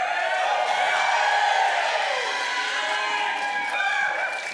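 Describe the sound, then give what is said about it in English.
An audience at a Northwest University event applauds as a student speaker is introduced, in a dense, steady wash of clapping for the whole few seconds, with some voices calling out within it, easing slightly toward the end. “It's good applause for being born.”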